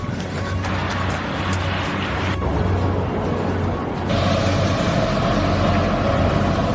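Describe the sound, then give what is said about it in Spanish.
A heavy garbage truck engine rumbles steadily with a low idling drone, joined by mechanical whirring and shifting tones as it collects trash along the city streets of Barcelona, Spain. “Lo que suena de fondo también es un camión de la basura que estaba recogiendo la basura también por las calles de la ciudad.”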